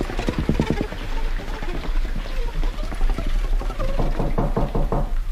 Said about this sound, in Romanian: ar trebui să încep din nou să-i bat la ușă.